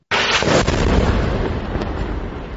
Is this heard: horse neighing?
no